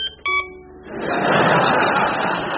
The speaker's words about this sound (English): Panadol Records presents 20 irritating noises of today, featuring the unmistakable off-license door.